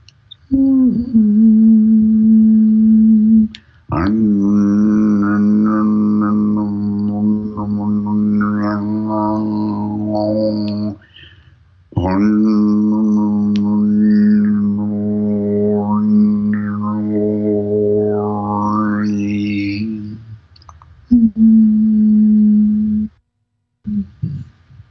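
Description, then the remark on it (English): A voice hums the note of the throat chakra, one steady, sustained note held in several long breaths with short pauses between them. The pitch stays level while the tone shifts slightly in color, loud and unaccompanied. “So listen for the note of your throat chakra and get it humming consistently in your throat.”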